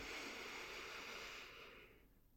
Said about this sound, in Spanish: Vamos a comenzar tomando una respiración profunda. Inhala todo el aire.